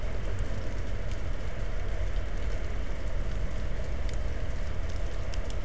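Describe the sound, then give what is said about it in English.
Dense, steady applause from a crowd, a continuous wash of clapping that holds an even loudness throughout with no voices rising above it. “Ladies and gentlemen, this radio outfit, Chelsea Junkyard, is bringing in the applause.”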